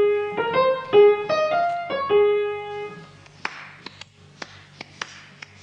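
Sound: hands clapping a rhythm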